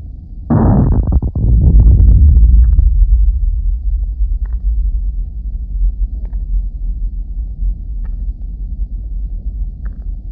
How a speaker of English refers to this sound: The first recording we hear is of a strong local tremor. This was recorded last December near San Clemente Island off the coast of Southern California.